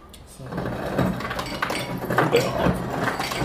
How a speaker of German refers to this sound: Einmal Eiswürfel bitte. Für deine Idole machst du das doch bestimmt. Erstmal kurz ein bisschen ASMR. Achtung, Eiswürfel. Gegen den Rücken. Klong, klong, klong.